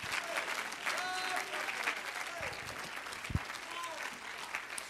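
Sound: audience clapping hands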